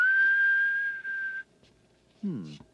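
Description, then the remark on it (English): A single long, steady whistled note held at an even pitch for over a second, whistling for a lost key ring that beeps when someone whistles for it, then a pause and a brief spoken word. “It's one of those key rings that beeps when you whistle for it.”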